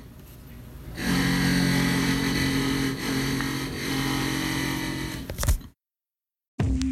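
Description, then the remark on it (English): A power drill runs with a steady, loud mechanical whir for about four seconds, with no voices, then it stops abruptly, followed by a brief silence. “Well, let's take a quick break, and then you, me, and the drill can talk a little bit more about that.”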